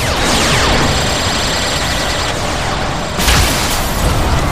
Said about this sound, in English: Whoa! Well, we got rid of the aliens. We also managed to blow up half the Seven Bridge.